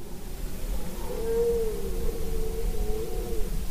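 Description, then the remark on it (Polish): A drawn-out, moaning roar of a red deer stag during the rut rises and wavers for a couple of seconds over a steady low background rumble, with no voices; about four stags are calling within some 400 metres. “A teraz ile ich się odzywa? Ja na razie słyszę 4.”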